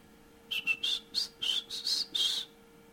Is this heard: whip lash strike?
no